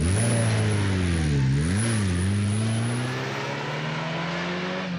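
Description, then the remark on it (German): A band's car engine runs loud, its pitch dipping and wavering before climbing steadily as the car pulls away from a meeting point in the evening and picks up speed, with a passenger in the back. No one speaks. “Die Band hat mich, wie ausgemacht, abends am Treffpunkt abgeholt mit ihrem Auto. Ich gleich hinten reingestiegen und los ging's.”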